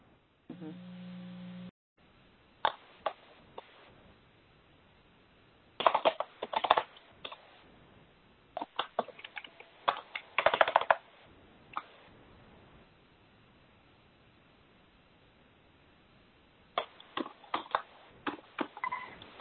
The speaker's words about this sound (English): can you turn off your mic? We can hear the typing, please, if you don't mind.